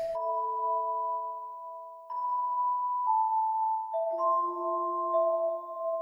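Gentle, calm game music built from soft sustained chime-like tones, shifting chords every second or two in a slow, steady pattern. No voices; the notes ring clearly.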